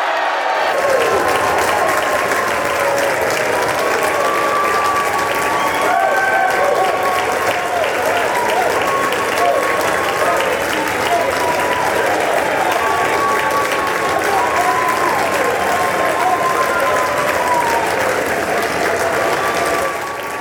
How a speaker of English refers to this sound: The Democrats cheering and literally jumping up and down, celebrating the passage of this huge piece of legislation that they tied themselves up in such knots about. Ultimately, and this went on for a while, they finally calmed down a little bit